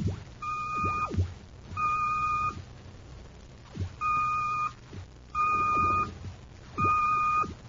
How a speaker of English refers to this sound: The code signal. It's been picked up repeatedly from Planet X. Planet X? Notice the pattern. It crosses repetition of 3 dashes.